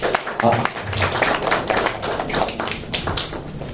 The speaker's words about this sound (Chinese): 好，我们给神一个掌声。